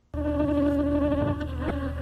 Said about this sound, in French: C'est le bruit qui vous accueille lorsque vous vous approchez des essaims d'abeilles d'Awanga Timothée.